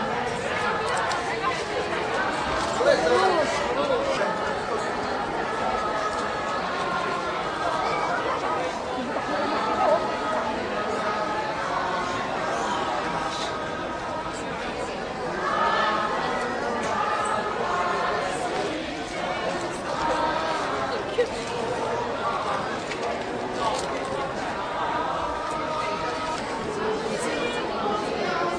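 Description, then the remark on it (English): A dense crowd chatters continuously, many overlapping voices forming a steady hubbub with no single speaker standing out, holding an even loudness throughout, as a tearful crowd of family members, fellow practitioners and local media welcomes five Bay Area practitioners home. “They were welcomed home by a tearful crowd, including family members, fellow practitioners, and local media.”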